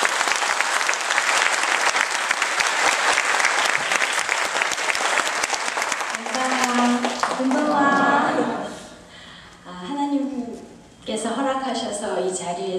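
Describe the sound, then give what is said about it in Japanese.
A crowd bursts into sustained, dense applause for about six seconds, welcoming two singers, then the clapping fades as a woman begins speaking over the last scattered claps. “あの大きな拍手で歓迎してください。”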